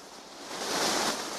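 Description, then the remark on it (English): Water from a fountain in the middle of a plaza splashes in a steady, rushing hiss that swells a little louder partway through, continuous, with no voices. “In the middle is a water fountain.”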